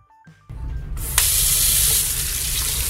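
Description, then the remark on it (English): A tap turns on and water gushes steadily into a basin to prepare a baby's bath at a medical centre's mother and baby ward. It is a loud, continuous rushing splash that starts abruptly after a brief quiet click and keeps flowing without pause. “So you put on the cold water first, then you put the hot water.”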